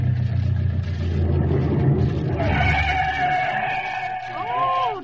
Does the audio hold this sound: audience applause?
no